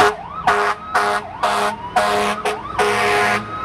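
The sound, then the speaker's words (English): An ambulance siren wails loudly as rescue vehicles race to the scene during an emergency drill in a Tel Aviv suburb, in rapid, repeating rising sweeps, cycling about every half second with a steady rumble of traffic beneath, no voices present. “As rescue vehicles race to the scene, one of the ambulances turns out to be wired with explosives.”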